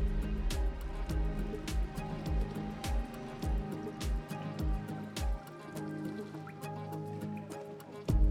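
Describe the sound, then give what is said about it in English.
Water is poured down a person's chest outdoors at night by a pool. It splashes and drips in an uneven series of soft, wet plops, with small liquid movements over a steady low background hum. No one speaks. “You pour some water down my chest so you can follow the little stream of water going down in between my breasts.”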